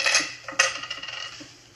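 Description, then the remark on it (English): Keys and coins taken out of a person's pockets are set down on a hard table with a bright metallic clatter, two sharp jingling impacts followed by a few lighter clinks as they settle. “take everything out of your pockets. Put it right down here.”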